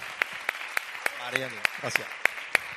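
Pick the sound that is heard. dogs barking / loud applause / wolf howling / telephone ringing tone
loud applause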